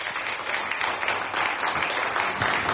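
A crowd applauds steadily, many hands clapping together in a dense, continuous patter that stays loud and even from start to finish, with no voices standing out.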